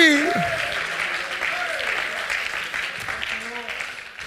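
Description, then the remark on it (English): A church audience at a Christmas sermon claps their hands in a sustained, dense burst of applause, with a few voices calling out over the steady clapping as it gradually softens. “Oh, that ought to make you want to clap your hands and say, Jesus, be born in me.”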